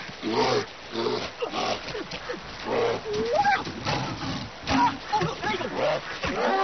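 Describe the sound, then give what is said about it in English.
Heavy splashing in river water at a river mouth, mixed with a bear's grunts, growls and snorts as bears catch salmon, loud and continuing in irregular bursts throughout. “At the River Mouth, the bears catch only the tastiest, most tender salmon.”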